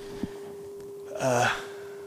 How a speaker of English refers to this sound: Okay, so there's a 200 hertz sine wave and no modulation. And when I bring up the modulation, you can see and hear the frequency double. So this is the resulting waveform here.